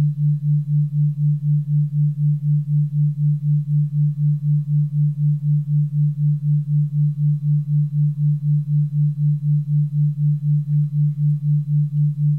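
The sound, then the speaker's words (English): A steady low sine tone throbs in a fast, even pulse a few times per second: a 4 hertz binaural beat from two close sine tones played at the same time and in phase, one in the right ear and one in the left, sustained alone with no voices. “A third tone is created, a new tone, a binaural beat, is created by your mind.”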